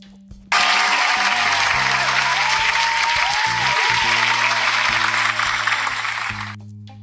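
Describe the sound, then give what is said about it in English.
A crowd bursts into sustained applause for Remy's newly created female battle rap league, dense steady clapping that starts abruptly, holds loud for several seconds, then begins to thin out near the end. “So round of applause for that.”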